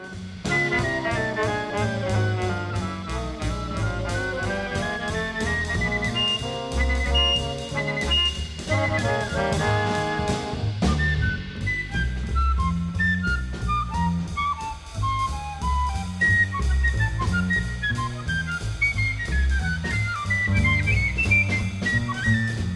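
A bright, high piccolo darts through quick, chirpy phrases like a penny whistle, riding over a full, steady jazz band with bass and drums, loud and continuous throughout.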